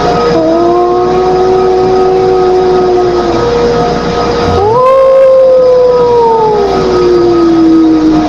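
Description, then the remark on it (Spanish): A voice imitates a ghostly, mournful lament heard on closing the door of a parents' house: a long, steady, loud moan, a brief catch, then a second cry that swoops up and slowly sinks in pitch as it fades. “Se escuchó un lamento que le hace.”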